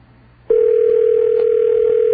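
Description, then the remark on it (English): A telephone sounds after a short quiet moment: a loud, steady, unbroken electronic tone at a mid pitch that holds evenly to the end, with no talking. “There's a phone ringing.”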